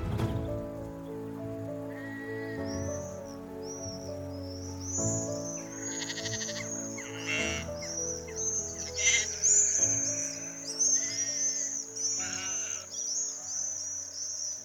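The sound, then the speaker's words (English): Sheep bleat repeatedly while grazing the parkland behind Laycock Abbey, with high, shrill screams of swifts streaking overhead, on a calm, very still, warm summer evening in mid-June. “As you can probably hear in the background, we're surrounded by sheep and swifts, and it's a very still, warm evening in the middle of June.”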